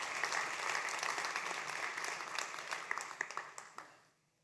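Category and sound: crowd, audience clapping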